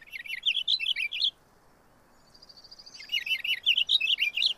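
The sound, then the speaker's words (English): A purple finch sings two bursts of fast, rolling warbled phrases, bright, separated by a short pause with a faint thin note, over quiet outdoor background. “Compared with house finch songs, purple finch songs are faster and roll along smoothly as a brisk series of warbled phrases.”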